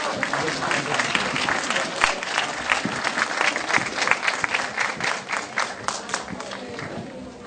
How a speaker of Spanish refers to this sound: Vamos a recibirlos con un fuerte aplauso.